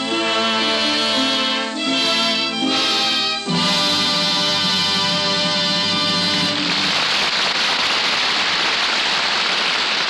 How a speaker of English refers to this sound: The music swells, the audience applauds. The curtain slowly falls, bringing our play to its happy conclusion.